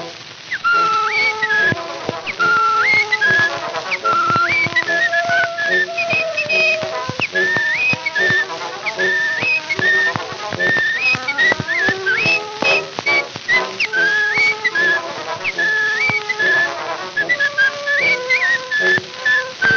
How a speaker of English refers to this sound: He'd whistle night and day in his own peculiar way. Indeed, he was as happy as a loon. And it made him feel so proud when he'd whistle out so loud. And this was his old familiar tune.